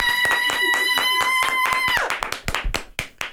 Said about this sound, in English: Should I hold my applause? Applaud!